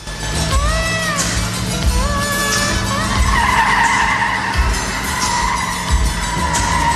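A cab's engine roars steadily while its tires squeal repeatedly in rising and falling shrieks, loud, as the cab speeds through a multi-story car park and turns sharply.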